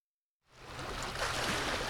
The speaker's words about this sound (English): As water laps along a Lake Superior bay,